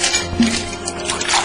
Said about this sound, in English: Pull up a stool, and let me pour you a drink.